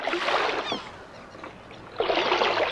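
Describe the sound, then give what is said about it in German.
Oars dip and pull through water in slow, rhythmic strokes, each a swell of sloshing and splashing followed by a quieter glide. A small outboard boat is rowed the last stretch across a bay to the shore with its motor switched off. The sound is fairly clear, with no voices. “stellte den Motor ab und ruderte die letzte Strecke.”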